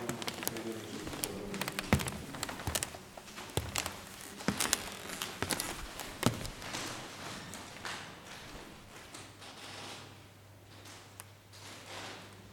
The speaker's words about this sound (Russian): Скрип пола в музее Чурлёниса, Каунас.